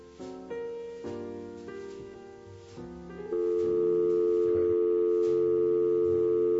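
A phone call being dialed: a quick run of stepped electronic tones, then a loud steady telephone tone that holds unbroken to the end, with no voices.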